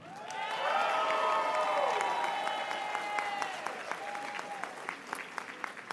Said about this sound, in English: Only two companies built some degree of accessibility into their products and actively worked with us to make additional improvements. Let's raise a cheer for Q Health and Allume.